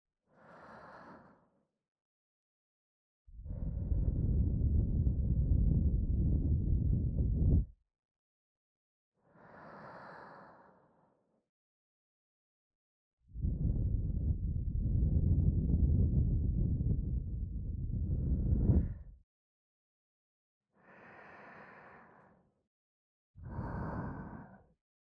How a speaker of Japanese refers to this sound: シスターの神聖な吐息を吹きかけてお清めです。